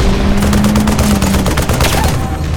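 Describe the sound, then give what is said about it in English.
Dense battle gunfire crackles in rapid overlapping bursts, with heavy booming blasts from a Napoleon cannon firing 6-pound iron cannonballs from fieldstone bunkers underneath, loud, forming a continuous chaotic barrage with no speech. “a huge gout of flame belched from one of the fieldstone bunkers. By the three Kennedys, that was a Napoleon.”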